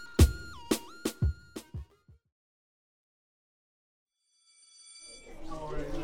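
A school class bell rings out in about six quick, bright strikes that fade away over two seconds, followed by a pause and then a swelling mix of tones and murmuring sound.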